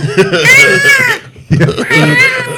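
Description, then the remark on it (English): A small owl screeches twice, each harsh, wavering, high-pitched cry lasting about a second, loud and rasping, separated by a short pause. “when you hear screeching. Well, this tiny little owl is making, like, the worst noise in the world.”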